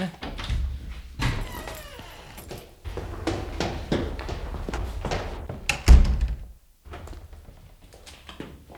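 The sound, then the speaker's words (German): Muffled thuds and footfalls move at an uneven pace, with a sharper knock near the end, heard from the other side of the closed door of a ground-floor guest toilet, over a low rumble. “vernahm er hinter der Tür plötzlich Schritte und erstarrte.”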